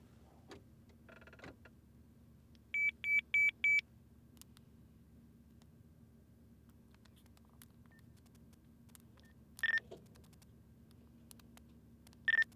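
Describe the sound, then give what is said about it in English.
Short, sharp electronic beeps ring out in a quick run of four, then single beeps follow after long pauses, loud over a low steady hum, with no one talking. “ain't gonna stop beeping.”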